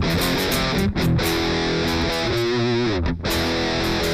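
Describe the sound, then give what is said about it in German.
Heavily distorted rhythm guitar played on the bridge pickup, with the buzzy, processed digital tone of a 2000s digital multi-effects rhythm sound, playing steady chugging chords with brief gaps between phrases, loud with no voices. “So klingt für mich der mit 2000er digitale Multi-Effekt Rhythmus-Gitarren-Sound.”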